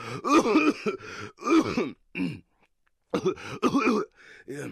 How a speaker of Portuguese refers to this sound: É só uma tosse. Já durou uma semana. Em breve isso passa.